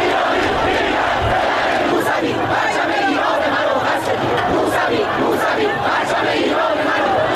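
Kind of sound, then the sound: crowd, protest crowd chanting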